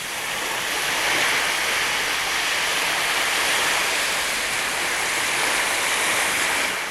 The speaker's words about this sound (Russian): Им нужно было перейти реку Ямуну. Вода бурлила и пенилась, вздымались огромные волны.